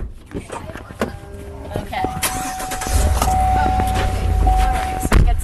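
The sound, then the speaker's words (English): Several solid thumps of car doors shutting as people load into a car, then an engine turns over into a steady low rumble, with a thin electronic chime and faint muffled voices in the background. “His mom grabs her phone and grabs her car keys and wallet, and then we load up into the car.”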